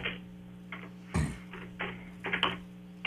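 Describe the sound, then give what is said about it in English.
Heavy, irregular keyboard typing as someone Googles a Super Bowl trivia question, with loud clacking bursts separated by short pauses, one strike much sharper than the rest, over a steady low electrical hum. “Is he typing with his fists?”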